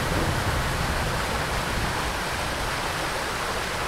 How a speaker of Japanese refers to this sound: うわ、滝だ。右手に滝が見えます。あ、涼しい。